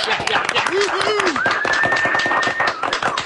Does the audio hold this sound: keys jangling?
no